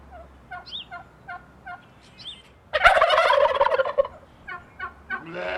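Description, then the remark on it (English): A flock of turkeys gobbles in a loud, rattling burst, preceded and followed by softer repeated clucks and calls from the birds, with no voices present. “Here come the turkeys.”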